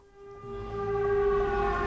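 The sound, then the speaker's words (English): A loud air raid siren wails at a port in Ukraine, with a steady, sustained tone that swells in volume, its droning pitch holding over a low rumbling background. “the air raid siren sounds.”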